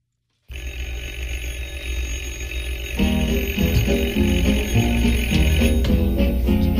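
A doorbell rings without stopping, a steady, bright buzzing tone. After a few seconds a bouncy instrumental tune with a bass line and short melodic notes starts up alongside it.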